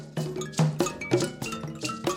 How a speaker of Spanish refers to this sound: ¿Te va transportando ya a nuestro próximo destino esta música, estos arcos, estos tambores, estos cascabeles?